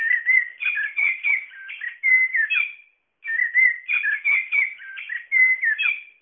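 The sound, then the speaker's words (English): A toy bird plays a blackbird call: a loud, melodic run of fluting whistles and warbles, repeated twice almost identically with a brief pause between, and no talking. “it sounds like a blackbird, and it has authentic bird calls”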